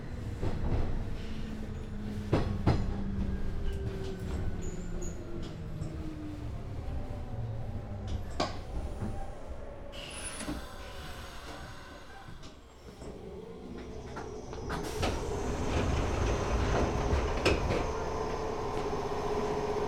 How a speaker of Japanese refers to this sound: この電車は福岡天神行き急行です。